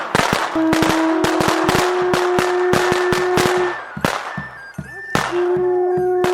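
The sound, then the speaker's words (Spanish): Bombetas (firecrackers) set off at midnight on a hill near the town to open the Nacencia de los Diablitos ritual burst in a rapid, irregular string of loud sharp bangs, slowing briefly before another flurry, while a steady held tone sounds alongside them. “El estallido de bombetas anuncia que la lucha ha iniciado.”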